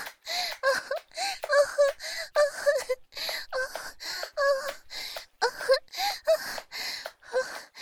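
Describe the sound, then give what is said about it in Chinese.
Heavy, rapid panting from one person: about sixteen breathy, partly voiced gasps in a steady rhythm, close and fairly loud, with no other sounds or talk. “姐夫，是不是听到我的喘息声，就觉得自己很厉害呀？”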